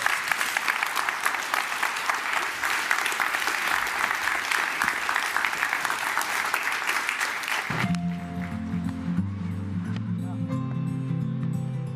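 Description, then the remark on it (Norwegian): A big round of applause at a conference, dense steady clapping from a crowd for about eight seconds, then it cuts off and a low tonal musical sound with sustained notes takes over. “En stor applaus.”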